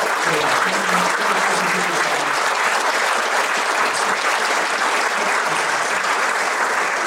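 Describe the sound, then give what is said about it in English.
Steady, loud applause from a large crowd at a men's conference in its 15th year, a dense wash of clapping that holds for several seconds, with a few faint voices underneath. “Let's give it up for all the guys.”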